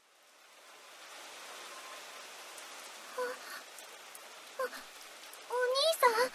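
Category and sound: nature, heavy rain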